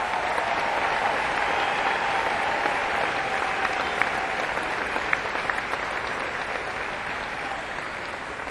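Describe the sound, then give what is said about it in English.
Steady, sustained applause from a large concert audience for the musical director, a dense wash of clapping that holds at an even loud level for several seconds with a few sharper claps and faint cheers poking through. “So let's hear a nice round of applause for our MD, ….”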